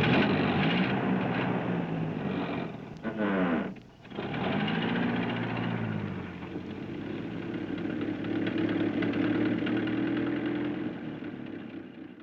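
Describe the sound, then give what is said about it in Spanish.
A school bus engine rumbles steadily for the whole stretch, with a brief dip and pitch sweep like a gear change partway through, then droning on as the bus drives away from a school. “El autobús rumbaba mientras se alejaba de la escuela.”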